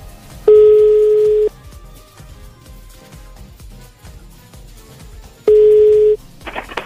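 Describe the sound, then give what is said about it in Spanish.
A telephone ringback tone from a call to a cell phone sounds twice, each a loud, steady electronic tone lasting about a second, with roughly four seconds of quiet between them and faint background music underneath. “Vámonos al celular.”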